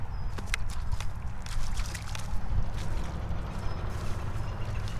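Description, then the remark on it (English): Frogs jump into a billabong pond, making several small, irregular splashes and plops over a steady low rumble of moving water or an engine. No one speaks. “All those little splashes you hear are frogs.”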